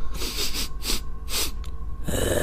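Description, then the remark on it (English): A voice imitates the old witch Baba Yaga sniffing the air like an animal before going inside her cottage on giant chicken legs: five or six quick, sharp nasal sniffs in a loose rhythm, fairly loud, followed by a brief breathy exhale. “The old witch then stopped before going inside and looked around, sniffing the air like an animal.”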